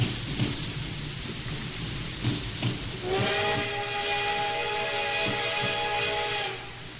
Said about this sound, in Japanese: 嵐の日って嫌だわ。いろんなことを思い出させる。 嵐の後には晴れた日も来るさ。回り合わせだもの。